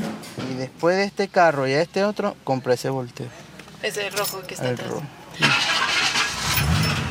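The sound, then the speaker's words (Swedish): After several seconds of a man speaking, an old American car engine cranks and roars to life at an abandoned warehouse in southwestern Venezuela near the Colombian border, a loud, rumbling burst that fills the last couple of seconds. “startar bilen och lägger sina tre ständigt ringande telefoner bredvid en sedelbunt i knät.”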